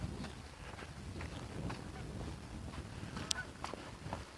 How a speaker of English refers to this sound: Oh, here comes a flock of geese. A lovely V. Dark against a cloudy sky.